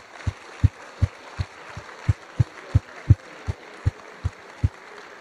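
An audience at a graduation ceremony applauds the graduates' loved ones in the hall in a steady, hissing wash of clapping, with a regular series of deep, evenly spaced thumps pulsing underneath about three times a second.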